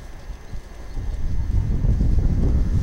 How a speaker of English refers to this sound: There's nothing like hearing a train coming in. Well, there is. A lot of things better than hearing a train coming in, but it's a good bet the one going out, yeah. Here it comes.